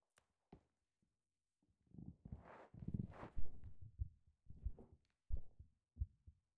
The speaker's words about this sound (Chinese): 你的心跳声好清纯，扑通扑通的，每一下心跳都告诉我，我们是在一起的。